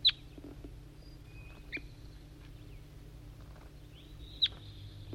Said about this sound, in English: Responding, I think, to a wild bird in the distance.